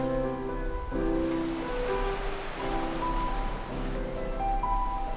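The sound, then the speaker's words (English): A steady wash of ocean waves rolls continuously beneath soft, sustained musical tones that shift every second or so, with no voices and an even, moderate loudness throughout. “She takes us all on a very special journey if we let her do it through the sounds of her waves. Oh, come ashore.”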